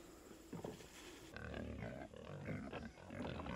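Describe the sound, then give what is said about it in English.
Several pigs grunt and snort on a farm, a loud, overlapping run of low, rough grunts that keeps going throughout with no one talking. “At this point, we've got a number of pigs.”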